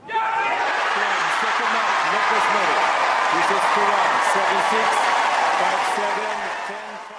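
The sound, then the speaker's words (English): A tennis crowd at the Queen's Club Championships in London erupts after match point as Murray and Spaniard Feliciano Lopez win the doubles tournament, with loud, sustained applause, cheering voices and scattered whoops, holding steady for several seconds before easing off slightly at the end. “Let's listen to the crowd's reaction after match point.”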